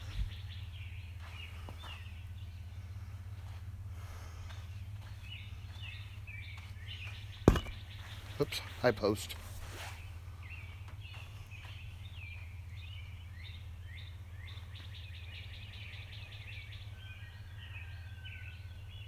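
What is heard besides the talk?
birds chirping outdoors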